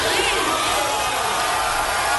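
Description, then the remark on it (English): A dense, steady roar of a huge crowd at a live event where someone crowd surfs, many voices blending into one loud continuous wash of cheering and shouting, with no single speaker standing out. “But listen to this crowd. I mean, this is a massive crowd.”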